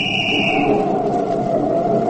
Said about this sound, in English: Hey, you! Can't you hear my whistle? Pull over to the curb.